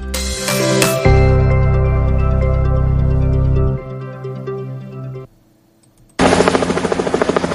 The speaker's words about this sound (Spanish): El sonido del helicóptero de rescate nos acompaña en más ocasiones de las que queremos.